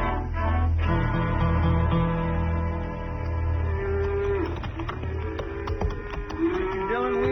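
Cattle low repeatedly in long, droning moos, one after another, fairly loud, with a busy herd backdrop of overlapping calls and rustling movement.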